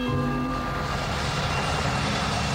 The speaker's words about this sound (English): That's his chopper. Yeah. Come in on the chopper. Nice touchdown.